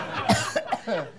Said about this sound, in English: Are you coughing because all the oxygen's gone?